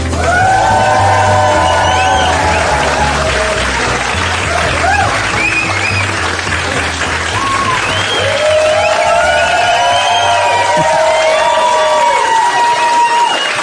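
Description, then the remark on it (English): A large live audience at a festival in Los Angeles, California cheers and whoops loudly and continuously, with rising shouts and whistles layered over a dense roar of applause. “This crowd is massive.”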